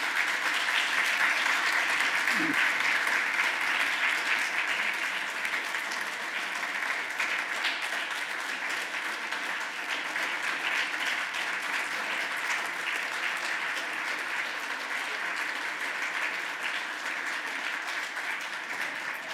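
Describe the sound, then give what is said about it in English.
Steady applause from a sizable audience for the man who put the program together. A dense, continuous patter of many hands clapping at even loudness lasts nearly twenty seconds, with no voices breaking through. “Before I begin, why don't we have a round of applause for the man who put this whole program together”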